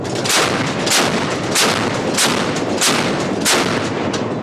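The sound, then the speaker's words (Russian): A ship's artillery fires during naval exercises: a rapid, steady series of loud blasts, roughly eight shots in quick succession, over a constant roaring background with no voices. “После выполнения артиллерийских стрельб поступил сигнал об окончании активной фазы маневров.”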